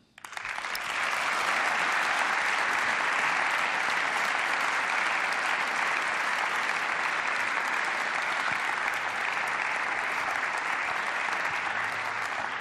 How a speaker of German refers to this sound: Das ist schon ein großes Novum, sonst bekommen die Schriftführer weniger Applaus hier in diesen heiligen Hallen.